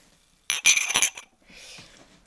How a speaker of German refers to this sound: Ich schlage vor, dass wir jetzt erstmal mit 100 Gramm Champagner anstoßen.